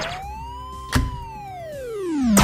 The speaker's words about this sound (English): Yeah, it kind of does sound a little bit like a siren, Tim, and I kind of agree with you. But you know what? This is one of my favorite time waster games.